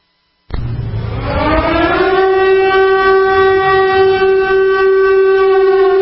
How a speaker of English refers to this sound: You probably noticed the last year or so the music's gotten a lot more dramatic here. Well, air raid sirens are a good archetypal image of incoming crisis.